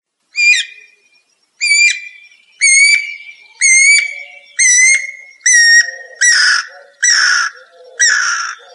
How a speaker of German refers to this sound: der Vogel heißt Guirakuckuck, ist also ein Kuckuck.